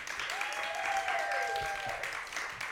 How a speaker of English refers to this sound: Suddenly, the crowd lets up a cheer as Wiley Post's plane comes into view.